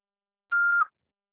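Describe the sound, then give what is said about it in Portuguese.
A single steady electronic beep, about a third of a second long, held at one mid-high pitch and fairly loud, then silence: the tone of an answering machine signalling to start recording. “Após o sinal, fale o seu nome e deixe o seu recado.”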